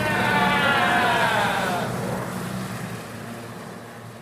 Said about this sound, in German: Eine Düsenmaschine nähert sich und fliegt über die Stelle des Wracks. Die Leute jubeln und schreien, endlich hat sie jemand gefunden. Und da kommen noch mehr Flugzeuge. Auch sie überfliegen den Unglücksort.